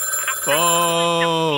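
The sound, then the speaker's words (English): A telephone rings with a loud, steady electronic tone that starts abruptly after a short quiet lead-in and holds unbroken and clear to the end. “the phone is ringing”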